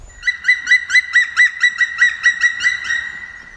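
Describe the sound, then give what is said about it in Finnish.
A black woodpecker's flight call as it flies among trees: a rapid series of about a dozen loud, ringing, slightly harsh notes in a steady rhythm, trailing off a little at the end, with no talking. “Raikuva lentoääneni kaikuu puiden seassa.”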